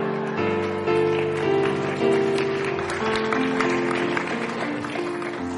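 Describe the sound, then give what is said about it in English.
An audience claps along in a steady rhythm to a song being led, over loud music, with sustained tones and singing voices carrying a tune beneath the sharp, repeated hand claps. “I'll just lead the song, but you do the clapping and the motions, and I just want to think about leading the song.”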